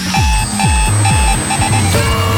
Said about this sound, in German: wir hauen hier noch ein paar VIP-Tickets raus, immer wenn ihr unseren Party-Alarm hört.